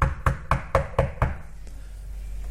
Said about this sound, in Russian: И в это время в дверь класса постучали. Учительница по привычке говорит: входите. Но никто не входил. Постучали сильней.